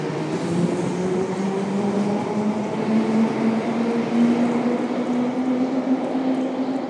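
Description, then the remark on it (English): A train rolls past a platform with a steady rumble and a low motor whine that slowly rises in pitch, continuous throughout with no voices. “We want to be near the back of the train, I think.”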